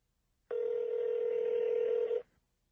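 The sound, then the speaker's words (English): A single steady telephone ringing tone of an outgoing call to chef Ludo Lefebvre holds for under two seconds, even and moderately loud, then cuts off abruptly, with no one speaking. “I'm actually on the phone with him.”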